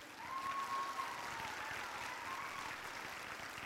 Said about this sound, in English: Yeah, you can clap there. That's a good place to clap.